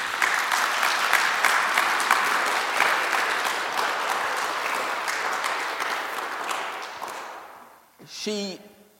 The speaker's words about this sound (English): So, although she's not here, we are recording this as I speak, so would you mind just giving her a big vote of thanks by giving her a massive round of applause, please?